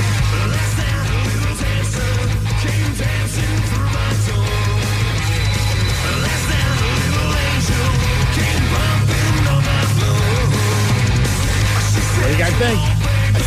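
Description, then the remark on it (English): A loud, dense rock cover version of a song with heavy distorted guitars, pounding drums and a driving bass line, delivered in a glossy glam metal style with no talking over it. “And they did a cover, and they kind of turned the song more into like a glam metal vibe.”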